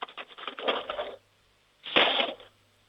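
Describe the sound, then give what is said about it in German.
Two bursts of a handful of metal spoons, taken out of a cutlery drawer, dropped back into it: a long jangling rattle followed after a brief pause by a second, louder crash of tumbling utensils. “Jetzt bin ich mal gespannt, wie das klingt, wenn du die Bestecklade aufmachst und einen Haufen Löffeln rausnimmst und sie in die Bestecklade reinfallen lässt.”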